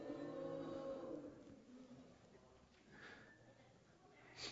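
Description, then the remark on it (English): Children in a room imitate cows with a loud, drawn-out mooing that fades after a second, followed by quieter scattered murmurs and a few softer moo-like calls from the group. “Now some cows. Let me hear some cows.”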